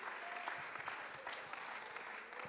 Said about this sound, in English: Let's clap our hands. Let's magnify him.